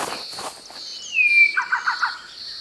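A Bower's shrike-thrush, a small grey songbird with a fuzzy peach-coloured chest, sings from the ground nearby while poking through leaves: a clear, sliding whistle followed by a quick run of four or five bright warbled notes, over a faint steady high-pitched insect hum.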